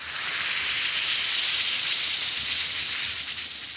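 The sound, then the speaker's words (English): A steady fizzing hiss of an Alka-Seltzer tablet dissolving in a glass of water, bright and continuous for several seconds with no talking. “Yes, that's the mighty welcome sound of a glass of sparkling Alka-Seltzer, about to bring somebody prompt and effective relief.”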